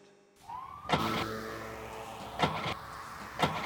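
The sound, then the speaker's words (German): A car engine that had been switched off cranks over without catching: a sustained mechanical whirring with a rising whine, broken by three sharp clunks about a second apart, with no voices. “Mensch, mach das Auto an. Ich hab dir doch gesagt, du sollst den Motor nicht abstellen.”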